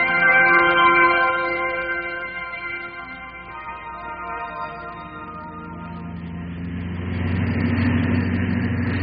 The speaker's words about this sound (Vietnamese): Đêm đó có lúc giật mình tỉnh giấc, tôi nghe tiếng xe cộ quần đi quần lại nhiều lần, đèn pha loang loáng.